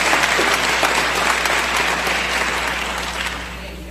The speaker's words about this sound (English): I was supposed to tell you all to hold your applause to the end. But let's give them another hand.